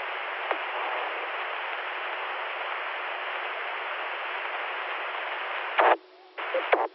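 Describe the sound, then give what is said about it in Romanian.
A steady hiss of amateur radio static runs for several seconds, then sharp keying clicks and a brief quieter gap as a carrier is keyed on over the modulation, followed by more clicks as the hiss returns. “Dovadă de radioamatorism, uite, să pune purtătoare pe modulație.”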